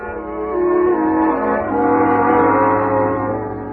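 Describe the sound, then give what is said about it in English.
A fire engine siren wails in a long, sustained horn-like tone, its pitch shifting slightly midway as the sound swells louder and then eases off. No voices are heard. “Then I dreamed the fire engine. And suddenly, I realized why. I was hearing some.”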